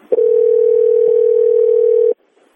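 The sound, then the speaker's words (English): A steady, loud telephone line tone holds unbroken for about two seconds, with a couple of faint clicks, as someone dials a phone number on a keypad, then cuts off abruptly into near silence. No one speaks. “Whoever's dialing a phone number, maybe you could push *6, please.”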